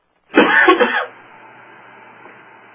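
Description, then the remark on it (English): A single loud, harsh cough from a participant on an unmuted phone line during a group call, muffled as if over a phone line, followed by a faint steady hiss of the open line. “And for the individual who just coughed, your line is not muted, so we can hear you.”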